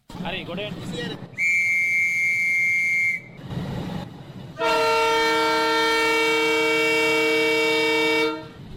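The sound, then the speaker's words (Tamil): A train in northern Sri Lanka setting off on its trial journey toward Jaffna: a steady, shrill whistle blast lasting a couple of seconds, then a pause and a long, loud, rich horn blast, with rumbling noise underneath. “ஒரு கால் நூற்றாண்டு கால பகுதிக்கு பின்னர் யாழ்ப்பாணத்தை நோக்கி இந்த ரயில் வண்டி தனது பரிச்சார்த்த பயணத்தை ஆரம்பிக்கின்றது.”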